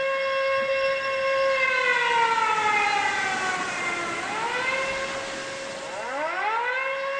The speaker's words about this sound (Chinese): 特战一连尖刀班的班长林瑞刚刚接来从新兵连分来的新兵，战备警报就拉响了，全班的战士急忙从铺上拿起钢盔和背囊往外跑。